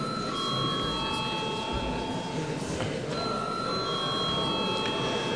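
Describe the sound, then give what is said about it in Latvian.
A sustained electric bell rings continuously in the Latvian parliament chamber before a vote, its steady tones holding across the whole stretch with a brief break midway, over a murmuring ambience. “Lūdzu zvanu!”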